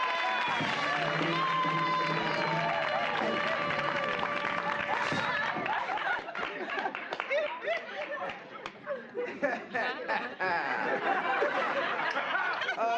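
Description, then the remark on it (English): Audience applause for a comic at a club, with scattered clapping, crowd chatter and some laughter, following a few seconds of sustained tonal, music-like sound at the start. “Let's put our hands together one more time and let's hear a dazzling round of applause for the atomic comic,”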